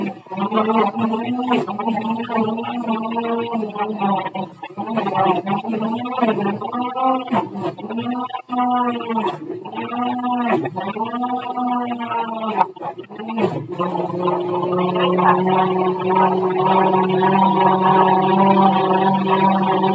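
A blender whirs loudly, its motor pitch wobbling and straining as it churns through small chunks of hard pumpkin, needing occasional help, then settling into a steady, even drone for the last several seconds as the purée forms.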